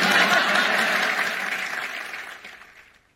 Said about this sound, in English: There's Dr. Jill with her Jeb Bush moment, stirring up the applause in an audience that really didn't seem that interested in what she had to say.